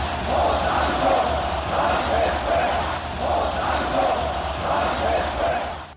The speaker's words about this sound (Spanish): Uno de los partidos que se oían ahí gritando OTAN no bases fuera y que fue tan opositora fue precisamente el PSOE